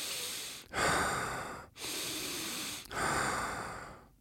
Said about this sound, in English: And like once I had those sensations, then he says he starts breathing in a very particular breathing pattern.